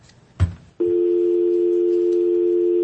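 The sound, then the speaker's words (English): A short click or thump as the phone button is pressed, then a steady, loud telephone dial tone that hums continuously to the end with no other sounds or voices. “I just hit the phone button.”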